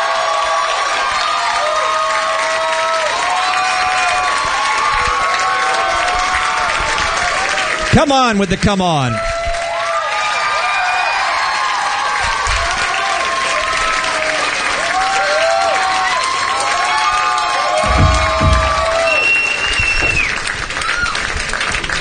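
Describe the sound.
A crowd cheers and applauds steadily, with whoops and shouted voices rising over dense clapping throughout; a brief burst of speech cuts in partway and talking continues beneath the noise. The audience is welcoming a band as guests at the Red Bull Soundspace at K-Rock.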